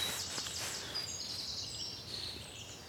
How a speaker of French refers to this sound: Alors ça, c'est la maison charbonnière, on la voit bien. Et puis il y a le pinson qui est là. Alors on a tout, hein, charbonnière bleue. Pinson, corneille.